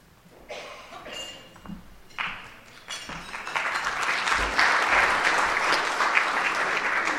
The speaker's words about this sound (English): Usually nobody applauses me, and I say thank you for your warm applause, but thank you for your warm applause.